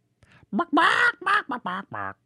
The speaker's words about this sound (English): I don't know what kind of bird this is anymore.